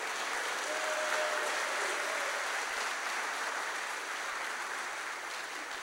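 Sustained applause from a conference audience congratulating a conference helper on her pregnancy, a dense, steady patter of many hands clapping at an even loudness for several seconds, with no voices standing out.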